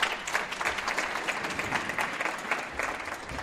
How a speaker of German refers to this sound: Wir haben heute und wir begrüßen hier Ulla Gessner aus Tel Aviv mit einem, wenn es geht, herzlichen Beifall.